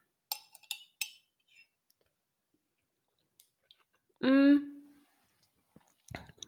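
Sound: wine glasses clinking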